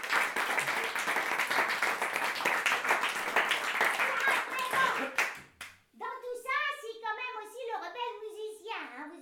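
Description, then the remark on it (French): A crowd applauds a person just called a good philosopher, with dense, steady clapping for about five seconds, then the clapping stops and someone starts speaking. “Hein, on peut l'applaudir, hein, on peut l'applaudir.”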